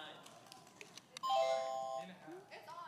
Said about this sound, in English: Okay. So all of our buzzers are working. Yours work.